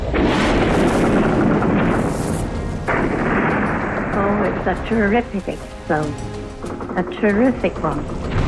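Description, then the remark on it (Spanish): A loud, booming ship explosion from a torpedo strike roars and rumbles for about three seconds, its noisy blast filling the space before people's voices take over. “Tras el impacto del torpedo, se produce una segunda explosión que abre la proa del barco como la boca de un tiburón.”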